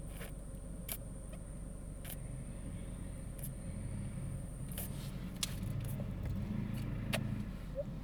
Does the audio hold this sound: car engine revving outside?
yes